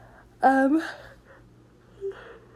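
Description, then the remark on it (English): A person yawns once, a short voiced, drawn-out yawn that swells then trails into a breathy exhale, followed by quiet with a faint soft sound shortly after. “I'm so sorry, I'm yawning.”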